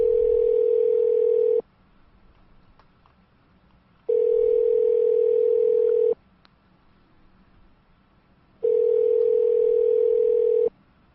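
A telephone line tone sounds in three long, steady buzzing bursts of about two seconds each, separated by equal pauses, clear and fairly loud with no voices.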